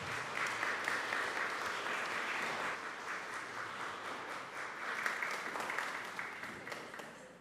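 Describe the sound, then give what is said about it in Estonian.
A church audience applauds steadily for several seconds as a woman is called up to the front, a dense wash of many hands clapping at once that stays fairly even in loudness throughout, with no one speaking over it. “Tule siia ette, aplaus!”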